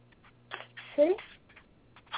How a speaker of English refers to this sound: I'm just, you know what? I'm shuffling some cards here, and I just want to see what we have.